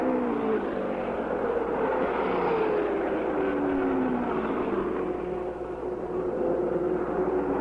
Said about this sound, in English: Mario wants to put traffic in front of Foyt. But Unser goes into the pits again as Andretti blasts down the front straight.